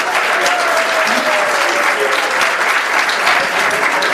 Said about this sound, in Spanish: Otro aplauso fuerte, por favor.